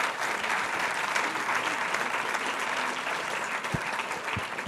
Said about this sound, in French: On va vous demander même de les applaudir parce que franchement, ils ont fait un exercice.